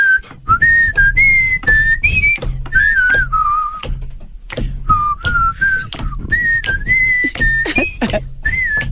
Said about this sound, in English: Okay, yeah, he can't whistle and laugh at the same time.